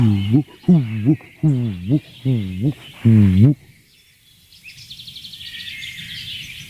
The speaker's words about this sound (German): Eine weitere Taubenart hier auf dem Platz.